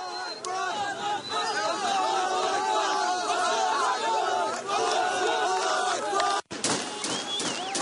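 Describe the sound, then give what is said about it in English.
A large crowd in Gaza cheers and shouts excitedly, with high warbling cries and overlapping voices in a loud, continuous din that drops out briefly near the end before resuming. “You hear this, the happiness? It's a New Year's Eve for them.”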